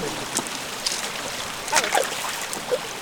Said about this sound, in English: Oh my God, it's like a cathedral of ferns. With these waterfalls cascading down the cliffs.